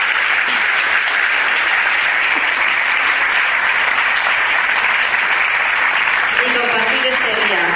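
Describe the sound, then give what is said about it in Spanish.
Sustained applause from an audience at a public town tribute as a woman being honoured is called up onto the stage, a dense, steady wash of clapping at full loudness throughout, with a voice briefly rising over it near the end. “sube aquí al escenario porque también te mereces el aplauso, el homenaje.”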